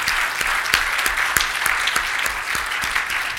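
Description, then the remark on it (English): Audience applause for former Representative Bruce Borders, who is running again for the Indiana House of Representatives: a steady wash of many hands clapping at once, dense and fairly loud, with scattered sharper claps standing out throughout and no voices rising above it. “Please give Bruce a round of applause.”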